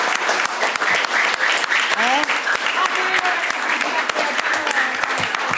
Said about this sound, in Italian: io ringrazio tutti gli insegnanti che hanno collaborato per la realizzazione di questo progetto. Vogliamo fare un applauso agli insegnanti?